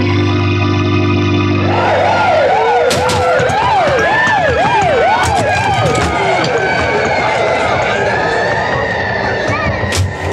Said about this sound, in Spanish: Los autos policíacos irrumpen a toda velocidad en el interior de la casa de Karma.